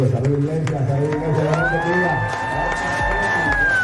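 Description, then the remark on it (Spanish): A large crowd in a church hall cheers and shouts loudly and continuously as a reggaeton singer enters, with many overlapping voices and one long, sustained high-pitched yell riding over the roar. “escucha la ovación con la que reciben a … cuando entra al salón”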